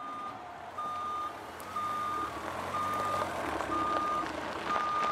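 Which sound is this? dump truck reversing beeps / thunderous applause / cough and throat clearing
dump truck reversing beeps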